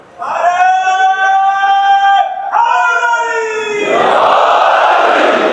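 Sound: crowd chanting religious slogans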